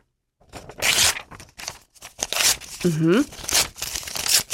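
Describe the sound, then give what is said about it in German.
Old paper being ripped apart again and again into small scraps, a year-end custom in Argentina: a series of sharp tearing bursts with brief pauses between them, and a short burst of voiced sound partway through. “Man zerreißt altes Papier, bis davon nur noch ganz kleine Schnipsel übrig geblieben sind.”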